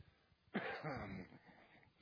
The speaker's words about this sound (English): Excuse my coughing and my nose running, but we thank you.